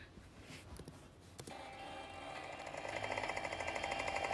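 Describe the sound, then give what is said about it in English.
A small bike engine, a bike rather than a motorcycle, buzzes with a rapid, rattling pulse, starting faint and steadily growing louder and more insistent over a few seconds. No one speaks. “It's a bike, not a motorcycle. That's kind of embarrassing. It's you. I mean, the bike I've been hearing.”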